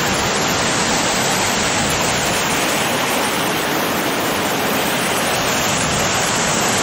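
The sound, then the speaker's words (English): A waterfall in the snowy highlands of the south of France at the end of March roars steadily with dense, unbroken rushing white noise, loud and constant throughout with no pauses or other sounds standing out. “So here's a waterfall.”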